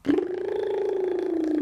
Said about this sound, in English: We can turn that hum into a tongue trill. Turning our head from side to side. And a lip trill at the same time. Tongue and lip trill at the same time, and humming and moving your head around.